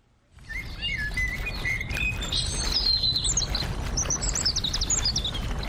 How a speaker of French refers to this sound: Le soleil se couche et les oiseaux chantent lorsque j'arrive au jardin botanique de Limbe.